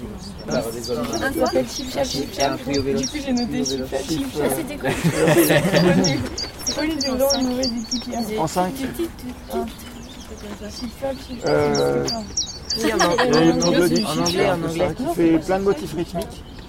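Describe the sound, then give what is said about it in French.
A common chiffchaff sings a repeated run of thin, evenly spaced high notes, faint, while people talk over it almost continuously. “Oui, le chip-chap, c'est quoi le nom en plus ? C'est le Puyo Véloce.”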